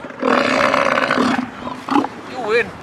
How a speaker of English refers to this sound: When the seal bellows, his hot breath hits Lars in the face. You hear the amount of air going in and out.